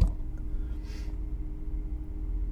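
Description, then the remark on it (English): A steady low electric motor hum runs throughout as the car's seat bolsters move in and the steering wheel moves down, with a brief soft whoosh partway through as the car door closes itself. No talking. “The seat bolsters move in and the steering wheel moves down. The door closes itself.”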